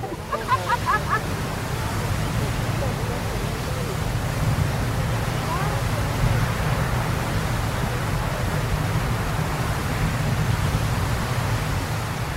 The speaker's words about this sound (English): This would be Old Faithful erupting next to you, the most famous of Yellowstone's features. It does that all the time, with similar blasts coming from the ground at least every 2 hours.